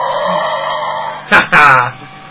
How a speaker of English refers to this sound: What the hell is that? I got a robot dinosaur, man. Somebody very dear to my heart gave this to me. It's awesome. I'm going to feed him right now. He's barking.